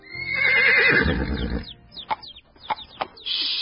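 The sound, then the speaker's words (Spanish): A horse named Fulvio, suddenly furious as a saddle is put on its back, neighs loudly and shrilly, its agitated whinny rising and shaking for over a second, followed by a few sharp snorts and short squeals. “Pero al hacerlo, ese caballo, hasta ahora tan manso y mimoso, de repente se pone furioso.”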